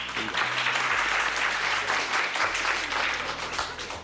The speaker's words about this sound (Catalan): Un aplaudiment, vinga, pels dos.